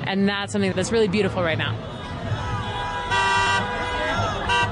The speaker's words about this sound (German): Eine Demonstration gegen Donald Trump und Elon Musk in Kansas City im Bundesstaat Missouri. Vorbeifahrende Autos hupen als Zeichen der Zustimmung.